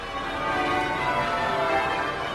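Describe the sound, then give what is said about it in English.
The church bells of Westminster Cathedral peal continuously during a royal wedding, a dense wash of overlapping ringing tones at steady moderate loudness with no pauses and no voices. “The beautiful sounds of the bells at Westminster Cathedral.”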